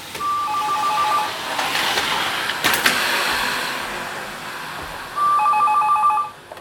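A telephone rings twice, each burst a warbling electronic trill lasting about a second, separated by a long pause filled with faint room noise. No one speaks.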